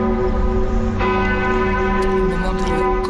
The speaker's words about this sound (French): Au même moment, à 18h50, heure à laquelle s'était déclaré l'incendie, toutes les cathédrales de France ont fait sonner leurs cloches.